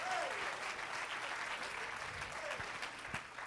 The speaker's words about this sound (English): It's a wonderful thing to be connected with God. Clap your hands to him and bless his name. Only if you're glad about it. If you're not glad about it, don't clap your hands.